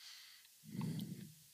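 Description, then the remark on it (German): A single heavy breath blown into a microphone, a soft low rumbling whoosh lasting under a second, with no talking around it. “Da atmet jemand schwer ins Mikrofon.”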